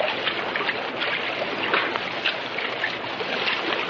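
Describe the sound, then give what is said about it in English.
Steady rushing and sloshing of deep, smoothly running water as someone wades through a flowing current in a tunnel, with soft splashes rising and falling. No one speaks. “That water is deep, friend of my heart. It runs very smoothly. Well, we'll wade in as far as we can.”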